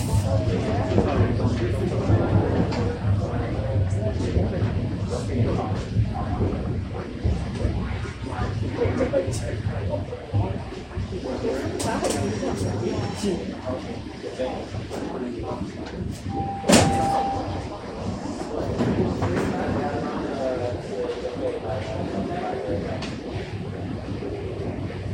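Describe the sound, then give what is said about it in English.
A subway train rumbles steadily and slows, with muffled voices underneath, then a brief sharp burst and tone as the doors slide open before the hum continues, as the train arrives at Davisville Station. “Arriving at Davisville, Davisville Station. Doors will open on the right.”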